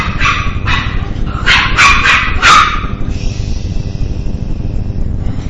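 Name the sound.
dog barking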